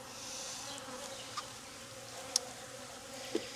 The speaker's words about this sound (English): Nice up close look at those bees for you.